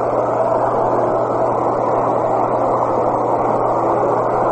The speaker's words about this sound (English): With the wind blowing in from left to right here, that means the plane's taking off.